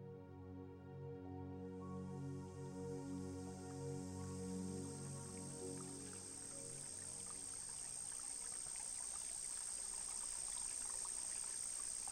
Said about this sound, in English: We begin on a quiet morning, somewhere in the French countryside, where the sounds of a babbling brook and chirping crickets are all that fill the air.